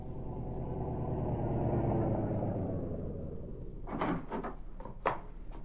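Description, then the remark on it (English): A car engine rumbles as a car draws up before the entrance of a country house and winds down to a stop, followed by a few sharp clunks and rattles like a car door opening and shutting. “A short time later, a car drew up before the entrance.”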